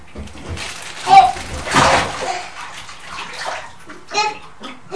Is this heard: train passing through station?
no